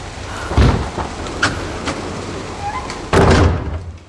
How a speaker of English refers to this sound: The door was wide open and being blown about by the wind.